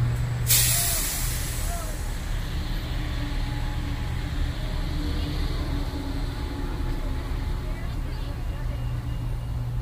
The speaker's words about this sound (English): Did you see the bus?